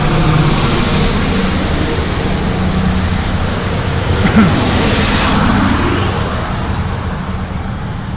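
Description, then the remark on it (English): Steady, loud roar of heavy road traffic, with buses and trucks going by, their low engine drone swelling and fading over a constant wash of noise. “Let these buses and trucks go by.”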